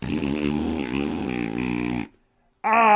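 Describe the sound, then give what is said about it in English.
A long, buzzy, low-pitched fart rumbles for about two seconds, stops abruptly, and after a short silence a second loud, higher, brassier burst begins. “Ah, bean fart.”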